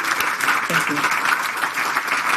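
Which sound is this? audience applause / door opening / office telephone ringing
audience applause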